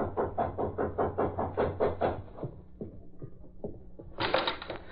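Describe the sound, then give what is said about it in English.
A few sharp, separate knocks on an apartment door, spaced unevenly, follow a stretch of steady rhythmic thumping pulses and come before a burst of hissing noise. “there was a sudden knock at her apartment door.”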